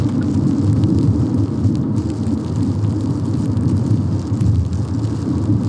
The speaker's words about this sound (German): Dorian hat uns auf dem Weg hierher die Untermalung geschickt. Regen auf der Windschutzscheibe für Stunden.